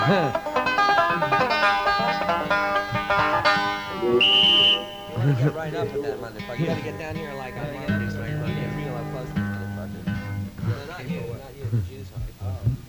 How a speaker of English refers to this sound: Well, let's just hey, what happened to my police whistle?